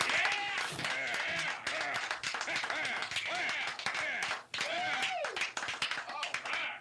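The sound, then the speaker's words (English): Steady applause from a crowd, dense clapping running throughout at an even loudness, mixed with cheering and overlapping voices. “Let me give it a little applause here.”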